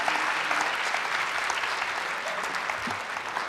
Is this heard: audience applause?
yes